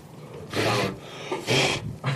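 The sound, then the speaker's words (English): Three short, forceful puffs of breath blown across a laptop to clear off ash, each a loud breathy hiss, the last one briefer, with no talking. “That's me blowing ash off of my computer.”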